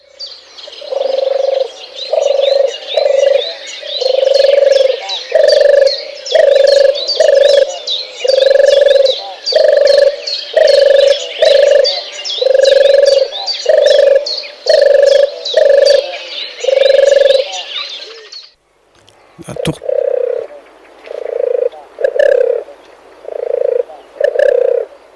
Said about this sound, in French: La tourterelle des bois est un oiseau qu'on entend malheureusement de moins en moins. Elle nous arrive, traditionnellement c'était pour le 1er mai, bon, maintenant c'est plutôt fin avril, mais elle est de plus en plus rare dans nos contrées,